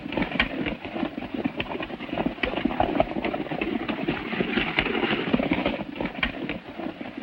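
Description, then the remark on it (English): Rapid, drumming hoofbeats of a ridden horse galloping away from a trail pound steadily and loudly for several seconds, a dense rumbling rhythm with no voices. “He turns his horse and speeds away from the trail.”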